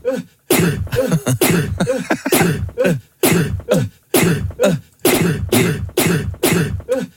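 A recorded human sneeze played back over and over, roughly seven or eight loud, sharp bursts in quick succession with brief gaps between them, each one sounding much the same.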